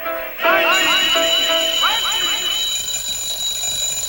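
alarm clock ringing

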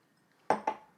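sipping whisky

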